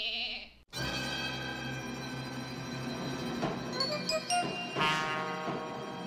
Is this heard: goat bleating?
yes